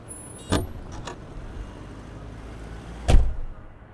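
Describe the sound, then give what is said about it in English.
Someone climbs into a car: a sharp door click, a couple of lighter knocks, then a solid thud of the door shutting, all over a low steady engine or interior rumble. “Get in. What are you so worried about? I've been driving since I was 12.”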